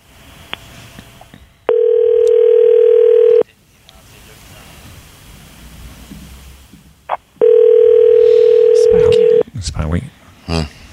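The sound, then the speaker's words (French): An outgoing call to a woman's phone number ringing on the line: two loud, steady ringback tones, each about two seconds long, separated by a few seconds of quiet, with faint voices in the background and someone talking at the end. “Au moins ça sonne. Fait qu'elle n'a pas changé de numéro de téléphone en théorie.”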